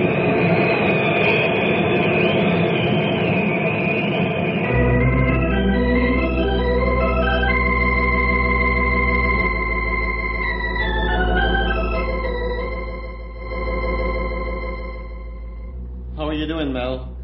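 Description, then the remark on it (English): A loud, sustained rumbling roar of a rope-like tornado funnel plowing across Big Mesa, similar to a freight train, builds after a few seconds and holds steady, overlaid with shifting, rising tonal howls. “I've still got the tornado on the radar screen, Mike.”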